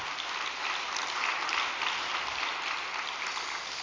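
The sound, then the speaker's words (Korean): Steady applause from a crowd fills the whole clip, a dense even wash of many hands clapping at moderate loudness with no voices on top. “예, 박수를 부탁드리겠습니다.”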